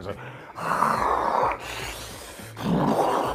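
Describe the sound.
A voice imitates loud, rasping snoring like a cartoon grizzly bear: two long, rough, breathy snores separated by a brief pause, fairly loud, with no other talk.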